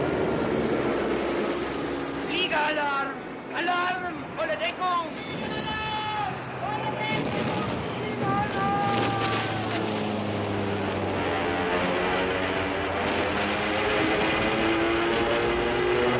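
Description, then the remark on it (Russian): Soviet warplanes drone overhead in a loud, continuous roar with a steady engine hum that thickens toward the end as a bombing raid begins, while voices speak briefly over the noise early on. “По небу летят советские самолеты.”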